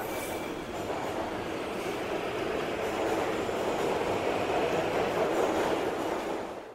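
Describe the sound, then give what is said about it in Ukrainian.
A metro train pulls away after its doors close, heading for Kontraktova Ploshcha station; its steady, dense rumble rises slightly and holds for several seconds, with a faint high whine near the start and no voices. “Обережно, двері зачиняються. Наступна станція – Контрактова площа.”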